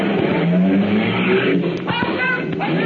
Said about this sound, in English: You started the car